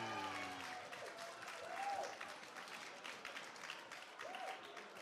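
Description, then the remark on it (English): A crowd applauds steadily for about five seconds after the speaker announces becoming the new voice of the Tenor Flex Plus Super Soft Incontinence Pad, a dense wash of clapping with a few whoops and cheers rising above it. “Not only are you applauding, some of you I know are thinking, oh, actually, maybe I hope you'll get on with it because I do need a comfort break.”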